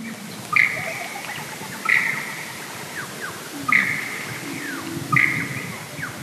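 A male lyrebird's bee song, part of its dancing mound songs rather than an imitation, in the Kapiti Valley: four bright, ringing bursts about every one and a half seconds, joined by fainter sliding, buzzy notes and a low droning hum, with no voices.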